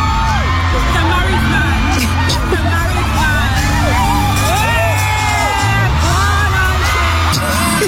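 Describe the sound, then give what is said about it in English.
A loud crowd at an Usher concert in the UK cheers and whoops continuously in reaction to a woman in the audience, with rising shouts, yells and high-pitched whistling over a dense, steady roar of many voices throughout. “This was the crowd reaction to her.”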